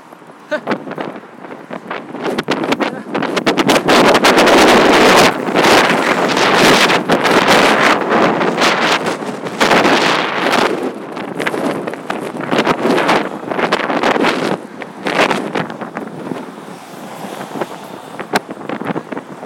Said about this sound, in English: I suppose the rain could be harder. But the wind is incredible.